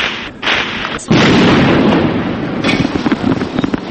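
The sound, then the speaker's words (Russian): Loud booms and sharp blasts crowd together, with heavy gunfire-like bursts rolling on without pause: tank cannon volleys and explosions at night near the Lithuanian television and radio building in Vilnius, a chaotic outdoor scene. “От танковых залпов вылетают стекла в домах. Стрельба, взрывы, раненые.”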